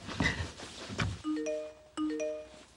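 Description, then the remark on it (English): A mobile phone rings with a short electronic melody of rising tones, played twice in a row, following a moment of muffled rustling and clatter. “Let me just put that on vibrate.”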